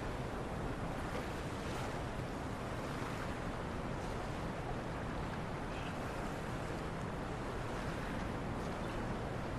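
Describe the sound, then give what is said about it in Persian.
Steady, continuous lapping of lake water waves along the shore at night, a broad washing rush with gentle swells and a faint breath of wind, no voices present. “شب گیهان کنار دریاچه نشسته نوشیدنی میخوره.”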